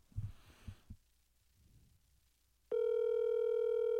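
A few soft handling thumps, then a loud, steady electronic ringback tone begins on an outgoing phone call returning a missed call, and holds unbroken to the end. No one speaks.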